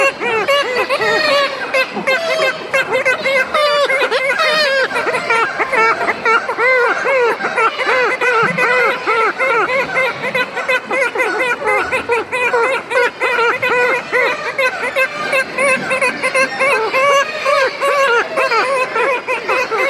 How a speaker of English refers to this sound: High on the cliffs and high above a gully, kittiwakes make their presence known as gulls patrol the island perimeter.